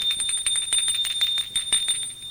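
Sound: doorbell ringing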